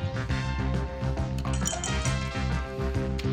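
Ice cubes clink against a glass in a few light, bright taps at uneven intervals, heard over a steady, rhythmic tonal background that sounds like music playing.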